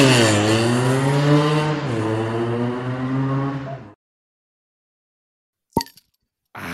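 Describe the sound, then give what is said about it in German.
A Flensburger swing-top beer bottle pops open with a single sharp, short plop after a moment of silence, following several seconds of a loud, rising and falling engine rev. “Ja, also, wie viele Flensburger hast du jetzt geübt, dass du das hingekriegt hast jetzt?”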